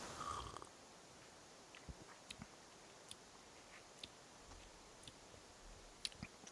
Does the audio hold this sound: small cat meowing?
no